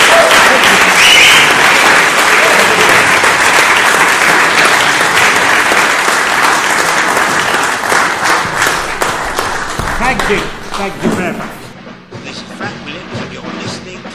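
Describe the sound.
A crowd applauds at the end of a live interview, loudly and steadily, a dense wash of many hands clapping that thins and fades toward the end, where scattered claps and faint voices remain.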